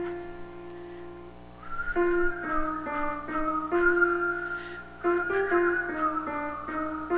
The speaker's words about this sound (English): Now, I'd like to know how many people can whistle. Can you play that again?